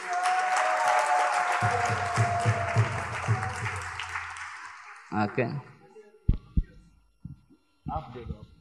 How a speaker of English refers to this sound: So everybody give big applause, you know.